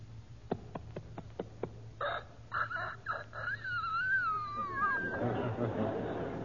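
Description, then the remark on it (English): A four-month-old young rooster tries to crow: a few sharp clicks, then choppy squawking bursts that stretch into a thin, wavering, cracking call before trailing off into hissy background noise. “You've got here The Life of a Rooster in four parts. 1 day, 4 months, a year, and 4 or 5 years old.”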